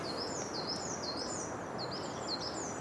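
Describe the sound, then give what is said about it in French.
A crested tit passing overhead gives thin, very high trilling calls in quick repeated bursts, fairly faint over a steady hiss of outdoor background noise. “Les enjupés qui chantent un petit peu comme une bille qui rebondirait vite sur du carrelage.”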